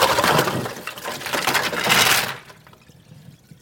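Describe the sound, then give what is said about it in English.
Water pours and splashes as a batch of mussels is drained of its water, their hard shells clattering and clinking against each other in a steady jumble, then the rush fades to a few faint trickles and a last sharp clack. “So I'm just going to drain it because you don't want the water.”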